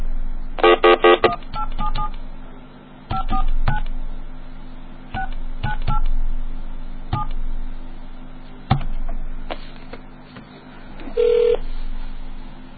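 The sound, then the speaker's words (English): Telephone touch-tone dialing to call back the long-distance company Touch America: a rapid burst of beeping keypad tones, then scattered single dual-pitch beeps at irregular intervals, with a longer tone near the end over a steady low line hum. “Hold on, I'll call him back and get it.”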